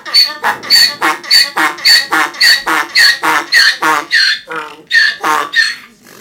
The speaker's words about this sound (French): L'âne, c'est un animal qui brée, vous en avez peut-être déjà entendu, je vais vous en faire écouter là. Voilà comment.